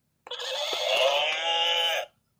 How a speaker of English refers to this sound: That was the horse.